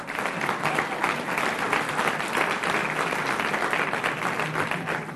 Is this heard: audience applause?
yes